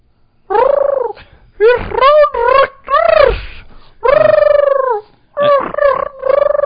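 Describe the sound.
A person imitates the cooing of the Action Room pigeon, a New York City pigeon, in a series of warbling, throaty phrases with short pauses between them, fairly loud, with no words spoken.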